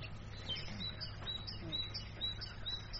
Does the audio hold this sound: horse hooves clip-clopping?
no